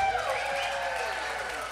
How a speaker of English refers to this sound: …, can I hear a round of applause?